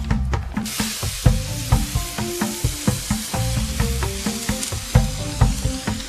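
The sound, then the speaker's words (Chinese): Pickled vegetables stir-fry in a wok with a steady hiss of sizzling oil, punctuated by repeated metallic scrapes and clanks of a spatula in a quick, uneven rhythm, fairly loud. “正好刚出锅来，你尝尝咸菜。”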